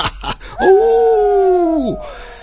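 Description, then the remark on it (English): A wolf howl: one long, steady tonal wail held for over a second, then dropping in pitch as it fades, preceded by a few short noisy bursts. Nobody speaks. “It was a wolf.”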